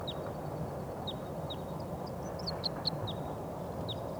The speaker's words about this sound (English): I think there's some wild birds coming in. I hear a song of a wild bird.